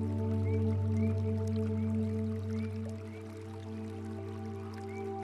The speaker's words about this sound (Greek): Παρατηρήστε τον ήχο του νερού που τρέχει.